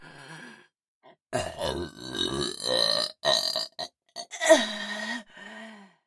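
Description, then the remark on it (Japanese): A long, loud, drawn-out belch rumbles for several seconds, breaking into a few throaty bursts and ending in a lower gurgling tail, with no talking. “お下品なゲップやめらんねえし。”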